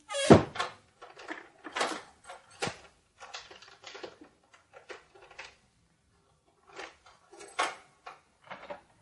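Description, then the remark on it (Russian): Outer doors are locked with a key: a door thuds shut, followed by a run of sharp metallic clicks and rattles of the key turning in the lock, with brief quiet gaps between the clicks. “На ключ запирают наружные двери.”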